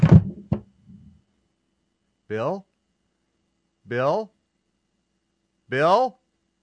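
knocking on a door

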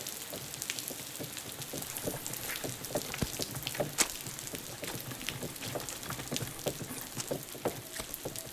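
rain falling

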